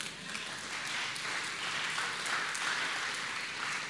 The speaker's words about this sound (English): I haven't even got to the awesome part yet, and you're clapping already. That's good.